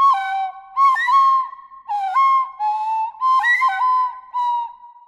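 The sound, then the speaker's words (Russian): A flute plays alone in short, breathy phrases of sustained mid-pitched notes, sliding and wavering between tones, with brief gaps between each attempt. “Ёжик передал флейту зайчику, а потом и белочке.”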